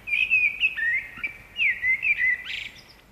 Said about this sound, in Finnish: miksi rastaat lauloivat jo tammikuussa täysin palkein. Tätä ilmiötä, kaupunkimustarastaiden talviaktiivisuutta, hämmästellään nykyään vuodesta toiseen. Maaseudulla ja varsinkaan luonnonympäristössä talvehtivat mustarastaat eivät laula talvella.